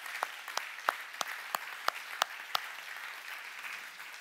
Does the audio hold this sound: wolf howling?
no